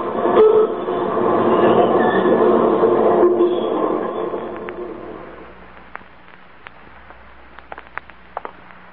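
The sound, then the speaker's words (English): A subway train rumbles loudly along the rails with a steady, dense roar, then fades after a few seconds into a quieter hum broken by scattered sharp clicks and ticks. “Well, do you mind if I ride with you on the subway?”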